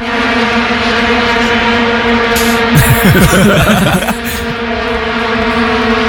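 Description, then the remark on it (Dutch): A dense, unbroken drone of thousands of vuvuzelas blaring together, a loud, steady, buzzing tone that holds one pitch throughout, with a brief rougher swell of noise in the middle. “Ja, duizenden, tienduizenden vuvuzela's tegelijk.”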